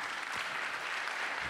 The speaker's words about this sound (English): Let's give her a hand clap if she comes.